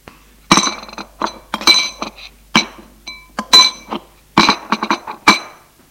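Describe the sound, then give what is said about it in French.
Dishes and glassware clink and knock as a father's lunch is set on a tray in a kitchen, a quick irregular series of sharp, bright ceramic and glass taps with no talking. “Odile met le déjeuner du père sur un plateau.”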